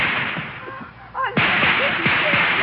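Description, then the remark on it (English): Gunfire crackles in a rapid, irregular series of sharp shots over a steady background hiss, moderately loud, with a brief lull partway through before the shooting resumes. “Open fire, Johnny.”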